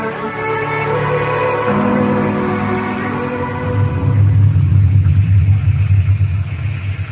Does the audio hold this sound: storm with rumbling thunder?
yes